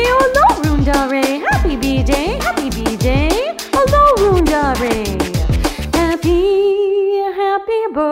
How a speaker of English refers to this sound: My dog says woof woof to you, all around our way.